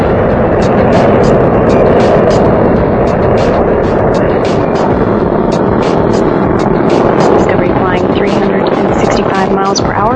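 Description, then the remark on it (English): Space shuttle Discovery's engines roar during launch from the Kennedy Space Center in a loud, continuous, rumbling wall of noise, throttling down as the orbiter passes through maximum pressure about 1.5 miles up and 7 miles downrange, with a man's voice talking over the din. “Discovery's engines are throttling down as the orbiter passes through the area of maximum pressure on the vehicle.”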